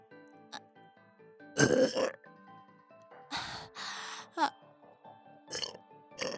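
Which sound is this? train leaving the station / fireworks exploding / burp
burp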